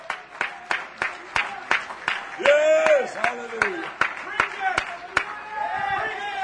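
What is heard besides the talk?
audience clapping hands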